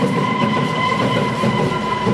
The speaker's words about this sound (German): Über uns fährt die U-Bahn, wie man charakteristisch hört.